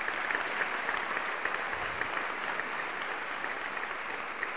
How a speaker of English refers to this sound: No more until the wedding ring goes on, sir. Can I have a clap for that? Tonight!